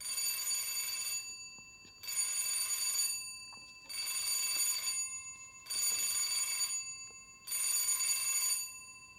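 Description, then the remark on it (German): A doorbell rings five times in a steady rhythm, each bright, buzzing ring lasting about a second, with short silent gaps between them and no one speaking. “Und dann läutet es 5-mal.”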